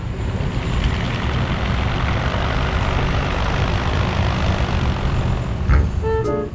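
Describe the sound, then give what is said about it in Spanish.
An airplane roars through takeoff, a loud, steady, rumbling engine drone that never lets up, with a brief high tonal chime sounding near the end. “Así que prepárense, damas y caballeros, porque despegamos rumbo a la Alemania del siglo XIX.”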